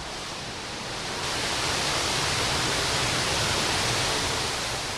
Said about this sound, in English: About 5,000 gallons rush into the concrete tanks per minute.